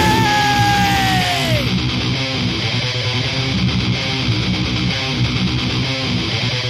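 A loud, drawn-out scream that bends downward in pitch over the first second or two, then gives way to a dense, harsh wall of distorted noise that carries on to the end.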